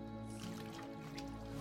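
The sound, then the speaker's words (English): Bath water sloshes and drips in a tub during a long soak, a soft, continuous wet swirl with small splashy drips scattered throughout, fairly quiet and with no voices. “You have a nice long soak in the tub.”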